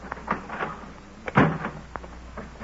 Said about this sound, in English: I'll open the door, will you?